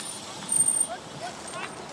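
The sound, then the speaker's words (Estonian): The Tartu–Rakvere bus pulls in, a brief high-pitched brake squeal and hiss rising over a steady rumble of engine and street noise, with faint voices in the background. “Ja siia saabus Tartu Rakvere buss.”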